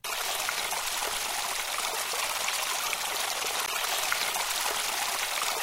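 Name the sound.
flowing river water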